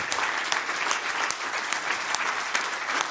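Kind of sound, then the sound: crowd, audience applause and clapping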